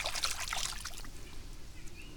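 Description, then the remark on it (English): Brief swishing and splashing of water as an orange Wilson Chaos golf ball is rinsed off in water, loudest in the first second, then settling into a faint, quiet trickle. “Wash it off.”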